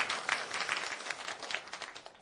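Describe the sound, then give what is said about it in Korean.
A church crowd applauds a church member steadily, many hands clapping in a dense, continuous patter that stays fairly even in loudness for a couple of seconds with no voices on top. “박수 주시기 바랍니다.”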